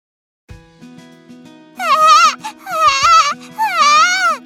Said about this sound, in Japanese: あらあら、どうしたの？ ねえ、赤ちゃんどうして泣いてるの？ きっとお腹が空いたんだよ。 どうしてわかるの？ 赤ちゃんはそうやってお母さんに知らせるんだって母さんが言ってた。